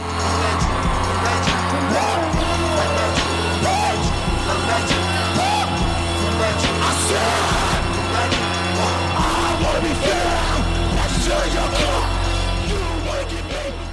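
A loud live rap performance at a 2020 awards ceremony before an audience in ball gowns and suits, with booming, pounding bass and dense layered music, shouted and yelled vocals over the top, and crowd noise filling the space throughout.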